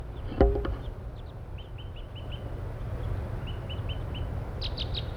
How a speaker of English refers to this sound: There are about 4 crossbills now near the parking lot area up in the pine trees, and one is still tooping.